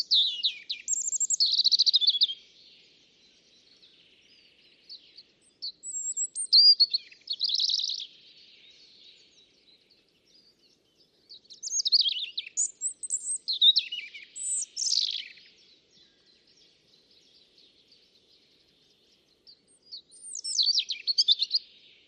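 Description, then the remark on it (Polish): A European robin sings alone in a small alder wood in spring, delivering high, thin, warbling phrases separated by short pauses, each burst varied and clear, with no voices present. “A w tym olsiku odzywał się rudzik i nagraliśmy rudzika.”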